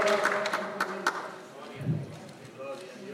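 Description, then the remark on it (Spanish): A church audience applauding the Lord in scattered, uneven claps that thin out after about a second, while a man keeps talking over them. “Un aplauso al Señor porque Dios sigue haciendo maravillas, hermano.”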